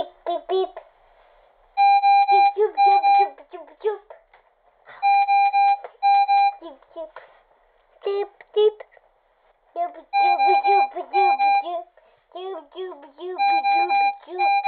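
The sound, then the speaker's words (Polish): A home breathing machine that keeps a young child breathing sounds steady, mid-pitched electronic beeps in repeated bursts, each a few seconds long, showing the machine is working, while a young child babbles and vocalizes throughout. “bo one brzmią jak po prostu jak ojom, jak oddział intensywnej terapii, a jednocześnie w połączeniu z oddechem dają spokój rodzicowi, że rodzic może spokojnie spać, bo są te dźwięki. Czyli ta maszyna pracuje, czyli dziecko oddycha.”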